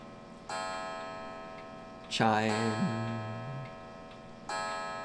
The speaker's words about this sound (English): Chime. I'm going to wait for the clock to chime out. It's 8 o'clock here in Fort Collins, Colorado.